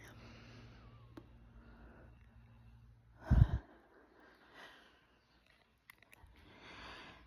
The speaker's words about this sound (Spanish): Y comenzamos con una respiración profunda que nos trae aquí.